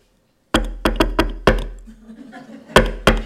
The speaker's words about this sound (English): And so we came up with this secret knock that only the five of us know, all right? And if you don't hear that knock, then don't open the door. And the knock sounded like this.